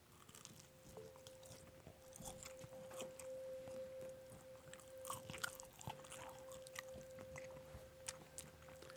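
Wet chewing of a mouthful of pizza, with irregular crunchy bites and squishy mastication sounds continuing steadily for several seconds over a faint steady hum.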